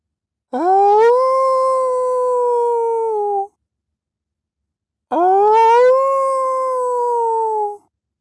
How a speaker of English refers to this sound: Otis noticed the coyotes had raised the volume of their own song, perhaps welcoming him